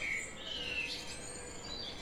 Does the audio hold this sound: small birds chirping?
yes